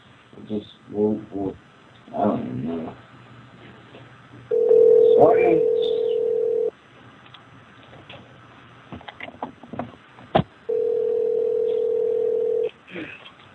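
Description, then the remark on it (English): A phone line with quick dialing beeps, then two long, steady, mid-pitched dial tones, each lasting about two seconds, separated by soft clicks and muffled background noise, as a call is placed again to a plus-size model. “We're calling the plus-size model again.”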